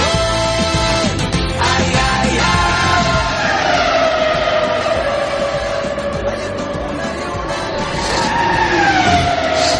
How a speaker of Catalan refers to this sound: Estem en aquest moment a 2:45, escoltem el so del motor.